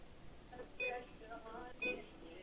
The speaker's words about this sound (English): What's that beeping? The police department's tracing the call. No, it's not.